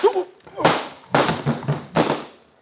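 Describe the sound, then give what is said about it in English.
Loud, sharp slaps across the face ring out, about three stinging smacks spaced unevenly, each with a short ringing decay, after a brief vocal sound at the start. “Try anything fancy, and the next slap will be with this pistol.”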